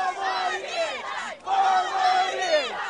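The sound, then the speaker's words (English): A crowd of rival political activists from both camps chants loudly in unison during First Lady Laura Bush's visit to Maine in the presidential campaign: two rhythmic shouted phrases separated by a brief pause, voices overlapping as the groups try to drown each other out. “When First Lady Laura Bush visited Maine, activists from both camps started up a kind of chanting contest.”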